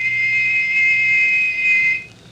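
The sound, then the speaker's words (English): A single sustained high-pitched whistle holds a steady tone for about two seconds, loud, then cuts off abruptly, leaving faint background hum. “Well, he said, on the river, and to listen for another whistle like this one.”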